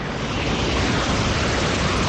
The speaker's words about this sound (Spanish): Ese es el sonido del agua marrón que está bajando por el tramo final del cauce del Guadalmedina, agua que ha arrollado enseres y maletas de personas que suelen dormir allí, bajo los puentes del río.